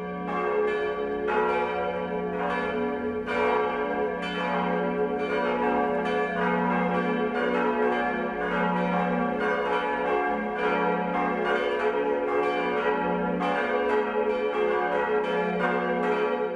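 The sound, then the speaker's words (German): Church bells ring steadily for the noon chime in Marquardtstein, Upper Bavaria, Germany, several bells overlapping in a continuous, resonant peal with repeated strikes and long humming overtones, loud, with no talking. “Das Mittagsläuten kommt heute aus Marquardtstein in Oberbayern.”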